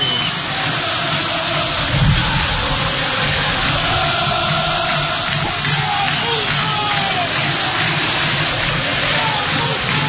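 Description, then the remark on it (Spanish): A massive crowd in the Colón stadium roars steadily for the players at the end of a Copa Sudamericana 2012 match, a dense wall of cheering and chanting that stays loud and sustained for the whole ten seconds, with a brief swell near the start. “Escuchen, escuchen la explosión que baja de todo el estadio de Colón para los jugadores de San Siro.”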